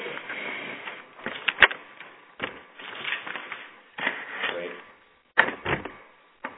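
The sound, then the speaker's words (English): Scraping, thumping and clattering noises come and go in bursts as chairs are shuffled around and set down, with a short spoken word in the middle. “We're just going to shuffle some chairs here.”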